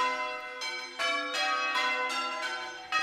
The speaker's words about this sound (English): In change ringing, every bell rings on every line once and only once, and each line is slightly different than the line before it, and no line ever repeats. It takes serious concentration.